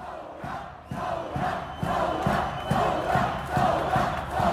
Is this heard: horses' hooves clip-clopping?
no